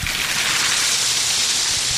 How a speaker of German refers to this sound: Also der Sohn nimmt jetzt den Sack und schüttet jetzt die gefrorenen Hagebutten erstmal in den Korb. Jawohl, ja. In den Korb und dann waren sie durch die Mühle durchgelassen.